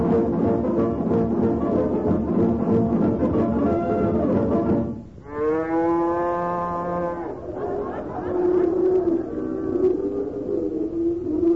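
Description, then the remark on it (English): Several cows moo in long, low, drawn-out calls that overlap at first, then a single clear sustained moo rises in pitch before more lowing follows, steady and fairly loud throughout. “Wonderful-looking bunch of cows, isn't it, Molly?”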